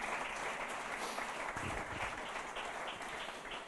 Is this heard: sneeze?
no